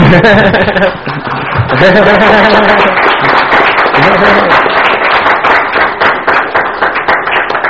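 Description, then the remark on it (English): Steady, dense applause from an audience at the end of a talk, many hands clapping at once, with voices and a few chuckles mixed in during the first half before the clapping carries on alone. “I think we all clap now, unless you have a question.”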